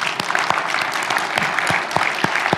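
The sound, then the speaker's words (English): An audience clapping for the Apache infrastructure team, dense overlapping handclaps forming a continuous wash of applause with a few sharper individual claps standing out, fairly loud. “Okay, all the others, use your hands to clap for these guys.”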